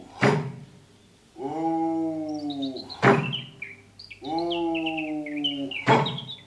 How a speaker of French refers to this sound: Elle s'arrêta un instant pour prêter l'oreille et fut réconfortée d'entendre le chant des oiseaux et au loin des voix de bûcherons occupés à couper des branches dans une futaie.